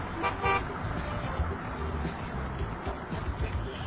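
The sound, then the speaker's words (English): A car idles with a steady low engine rumble, giving a quick double honk of its horn near the start before rolling on under the continuing motor noise. “Now that's a fresh ride. Well, too bad the driver's a major dweeb.”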